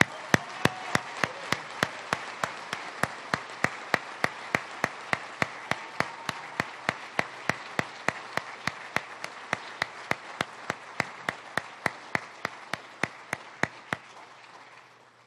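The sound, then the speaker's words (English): An audience at a police department award ceremony stands and applauds steadily for about fourteen seconds to honor an officer receiving the Gold Medal of Valor. A broad wash of clapping with sharp, evenly spaced clicks cutting through it, then it stops abruptly. “And everyone please stand if you are able to salute and applaud.”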